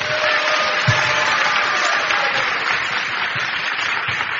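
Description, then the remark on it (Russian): A church audience gives applause to God, clapping steadily in a dense, continuous wash of applause, a few louder low thumps and faint voices mixed in, holding an even level for several seconds. “Дайте Богу аплодисменты!”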